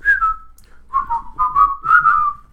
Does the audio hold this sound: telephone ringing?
no